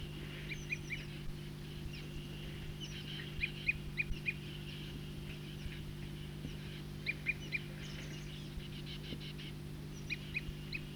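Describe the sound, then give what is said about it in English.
A bird gives short, repeated tooping notes in loose clusters, fairly clear and mid-high in pitch, over a constant low droning hum with no talking. “Is it recording the tooping again? Same bird.”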